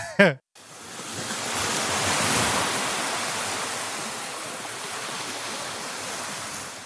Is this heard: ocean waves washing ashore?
yes